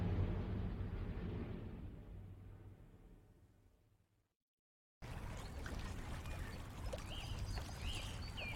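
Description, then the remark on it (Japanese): A low rumble fades to a brief silence, then soft, steady flowing water of a canal in the Netherlands takes over, gentle, with faint birds chirping over it and no voices. “オランダは水と生きる国、国中を駆け巡る運河が優しい水音とともに人々の営みを見守っています。”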